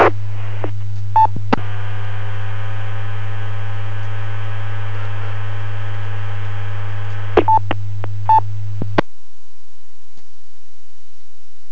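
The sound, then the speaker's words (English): A few short DTMF touch-tone beeps cut through a steady electrical hum over a radio channel as a station keys the repeater, with a long buzzing carrier in between, then the transmission drops to near silence. “have you got a copy on that station that is keying the repeater?”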